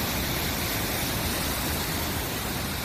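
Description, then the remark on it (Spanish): A dense, steady roar of torrential rain and rushing floodwater on Spain's Mediterranean coast in Tarragona province, where the downpours forced roads to close, fills the scene without a break, loud, with no voices. “Estas trombas de agua que estás escuchando han obligado a cortar carreteras, incluso como la de la N340 en la Ametlla de Mar, en la provincia tarraconense.”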